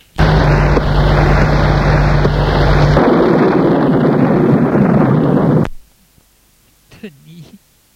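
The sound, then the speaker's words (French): A loud, steady thunderstorm roar of rushing wind with a thin wavering whistle and deep thunder rumble, during rain, cutting off abruptly after several seconds; a brief faint voice follows. “Le temps passe, qui lui semble interminable, au bruit de ces ombres menaçantes qui l'entourent et du bruit de l'orage.”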